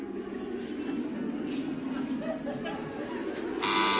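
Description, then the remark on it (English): In a humming karaoke game, a group of women hums a tune together, then a contestant buzzes in: a loud, harsh game buzzer cuts in at the very end, a single steady rasping tone. “you buzzed yeah.”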